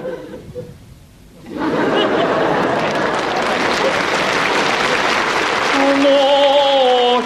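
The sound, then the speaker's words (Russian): After a brief quiet moment, a crowd bursts into sustained applause, dense and loud clapping with some cheering, lasting several seconds while tonal sounds emerge near the end. “Так и все, уже все думают, надо же аплодировать.”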